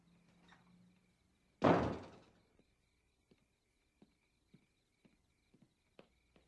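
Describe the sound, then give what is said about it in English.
A door slams shut with a single loud, booming bang that rings briefly, followed by soft, evenly spaced footsteps. “You didn't close the door on your way in”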